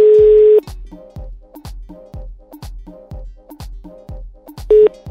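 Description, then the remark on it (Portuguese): A telephone line being dialed on the Brazilian radio show Missão Impossível on Jovem Pan: a steady line tone, then a fast, even run of short electronic beeps and thumps, then the tone returns briefly. Clear, with no voices. “vamos ligar pro Thiago, ver o que acontece nessa história”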